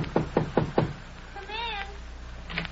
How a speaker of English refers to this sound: Knock on that door, will you?